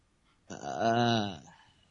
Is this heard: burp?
yes